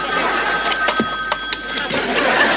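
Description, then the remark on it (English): A telephone rings with a steady, sustained electronic tone, heard amid busy, noisy surroundings with scattered clicks and knocks and faint indistinct voices. “Well, I hope you get your call soon.”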